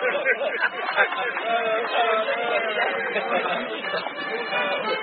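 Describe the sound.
A crowd of several hundred people, gathered after rain to watch a festivity with a girls' recorder band and a bishop beside a bell, makes a dense, steady babble of many voices chattering at once, overlapping talk blending into a continuous murmur at an even, moderate loudness throughout.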